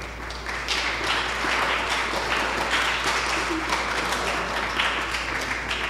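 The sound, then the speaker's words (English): An audience at a church applauds steadily, a dense wash of many hands clapping at a fairly even loudness for several seconds, with no clear speech over it. “Y'all are clapping like, he came to church, so did you, you know, come on.”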